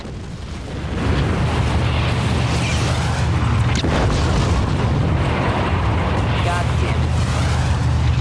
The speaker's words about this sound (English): Suddenly, Cobra helicopters appear above them and fire missiles at a target up ahead.